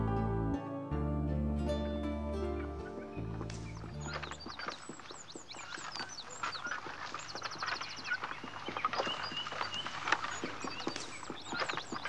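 A horse pulls a cart overloaded with stones along a road, with dense clattering hoofbeats and rattling wheels, steady, following a few seconds of sustained tonal music at the start.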